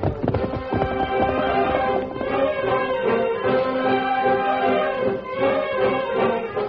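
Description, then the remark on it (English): The hooves of Tonto's horse Scout gallop in a quick clip-clop rhythm as they ride off to get the sheriff at the Wilson place, mixed under a loud, sustained orchestral music passage that dominates throughout, with no voices. “Tonto moved quickly to the side of his waiting horse, Scout.”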